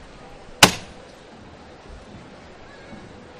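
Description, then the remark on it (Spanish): A foreman's (capataz) single sharp hammer knock rings out once, loud and percussive, with a brief ringing tail, signalling the lift of the Cristo de las Misericordias float of the Santa Cruz brotherhood in a Holy Tuesday procession. A low murmuring background continues with no further strikes. “Ese martillo que ha sonado.”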